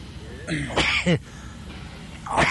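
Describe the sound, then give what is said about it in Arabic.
A single sneeze bursts out, a sharp voiced blast with a brief follow-through, then a short quiet stretch before another faint breathy sound at the end. “الحمد لله، يرحمكم الله، يهديكم الله ويصلح بالكم.”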